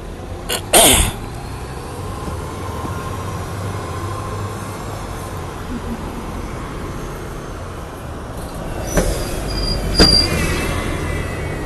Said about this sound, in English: A bus that just drove really close to me.